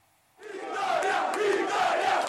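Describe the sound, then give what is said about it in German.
A large crowd of Italian football fans at Wembley, at the European Championship semi-final between Italy and Spain, bursts into loud, sustained cheering and chanting after a brief quiet moment, many voices roaring together with a rising and falling sung tone running through the din. “Die italienischen Fans geben den Ton an.”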